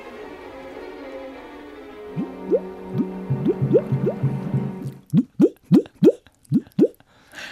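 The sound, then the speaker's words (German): Live foley water effects: water drips and plops fall in a quick, uneven patter, first over a low bubbling gurgle, then as about half a dozen crisp drops in a steady rhythm. “Das sind meine Tropfen.”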